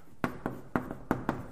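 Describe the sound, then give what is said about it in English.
Someone drawing a diagram on a board: a quick series of six sharp taps and short strokes, loosely paired, fairly quiet, with no talking. “Now, there's a diagram here I want to draw, and maybe this will help.”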